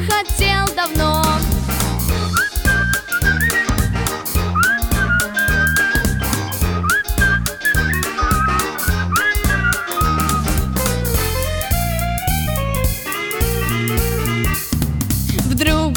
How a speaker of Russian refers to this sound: мальчишка с курицей говорил с ней, да на солнце жмурился, шел, насвистывал, слегка подпрыгивал и напевал мотив такой.